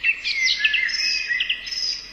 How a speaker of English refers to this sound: Did you hear those birds then, Aaron? That put me in a right good mood. Made you feel like you're on a warm summer's day.